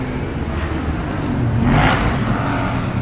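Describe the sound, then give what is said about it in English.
Steady car engine rumble while driving, with road noise throughout and a brief swell of revving around the middle before settling back to a constant hum. No voices. “Please stop the car. You want to kill me?”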